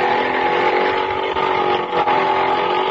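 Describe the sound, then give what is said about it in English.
A small motor scooter engine runs steadily, its buzzing drone holding an even pitch and loudness throughout, with no voices. “It's far enough to fall when it's still a scooter.”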